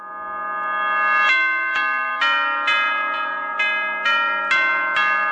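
A melodic bell chime, the 7 o'clock bell (6 in the Canary Islands) of Spanish radio station COPE, plays a series of bright, ringing tones in a steady rhythm, each note struck and left to resonate over the last, clear and fairly loud with no voices.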